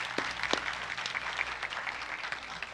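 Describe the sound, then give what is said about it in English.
An audience in Sylvania breaks into applause one morning to honor a couple, many hands clapping in a dense, steady wash with a few sharper individual claps standing out, sustained throughout with no voices. “Can we give them a good hand clap this morning?”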